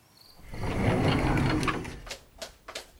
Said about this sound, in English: Nothing, only I've been closing all the French doors. I think it's going to rain any minute. I'd better do these ones now.